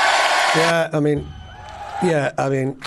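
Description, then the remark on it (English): A cheering sound effect: a loud burst of crowd noise followed by several raised, whooping voices with rising and falling pitch, cutting in and out over about three seconds. “So you've made it look like you've been busy, but in actual fact, you've Googled one thing, which is sound effects of cheering.”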